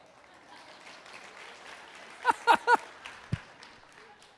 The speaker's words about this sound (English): here's the rule that I have, and we're just going to make a commitment to each other, that if five people clap, everybody has to clap.